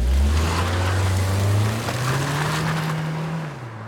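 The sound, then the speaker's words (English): A car engine roars at night, its deep hum climbing steadily in pitch as it accelerates, with a rushing wash of road noise, then easing off at the end. “And then I heard a car speeding up.”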